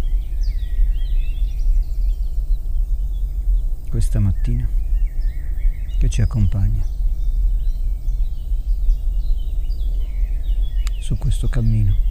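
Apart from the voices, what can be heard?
birds singing outdoors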